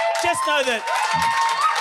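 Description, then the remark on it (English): A live audience breaks into steady applause mixed with cheering and a few whoops, loud, with scattered voices calling out over the clapping, applauding a host's girlfriend who is in the audience. “you can applaud her.”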